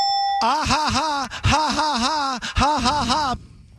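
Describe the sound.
A loud, warbling buzzer effect plays in three bursts with short breaks between them, its voice-like, harmonic tone bending up and down in a steady wavering rhythm.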